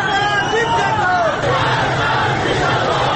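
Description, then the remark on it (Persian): A dense, loud crowd of angry street protesters on Saturday 30 Khordad shouting and chanting harsh slogans together, with demands going beyond "Where is my vote?", raised voices rising and falling over a constant roar of massed voices for the whole stretch. “به موج معترضانی پیوست که این بار خشمگین تر از روزهای قبل شعارهای تندی سر می دهند و خواسته هایی فراتر از رأی من کجاست دارند.”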